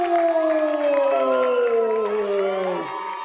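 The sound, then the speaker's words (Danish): A crowd claps and cheers hurrah and congratulations loudly and continuously for the winner of the forest championship 10-metre race, Turbo Bjørn Tempo, many voices shouting together in a sustained, excited roar for about three seconds that dips slightly at the very end. “Alle klapper og råber hurra og tillykke.”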